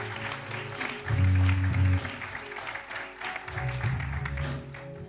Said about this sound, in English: Give yourselves a lovely, warm round of applause.